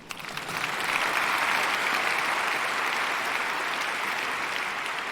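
Sustained audience applause for a presenter, a dense wash of many hands clapping that swells quickly in the first second and holds steady and fairly loud with no voices over it.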